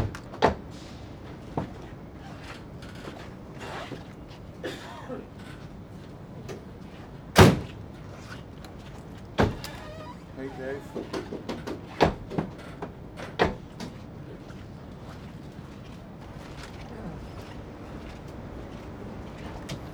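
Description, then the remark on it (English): Car doors are opened and shut again and again while listening for noises in the car and doors, a series of sharp thuds and clunks with one loud slam near the middle, scattered among softer rattles and clicks. “Yeah, just listening for noises, any stock in the car, in the doors or anything like that, and make sure like the bonnets are okay, seated properly and right.”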